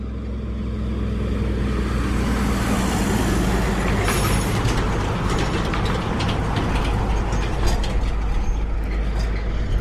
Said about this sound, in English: A three-carriage road train just passed us, and now another one's coming back in the other direction that has four carriages. These trucks are huge.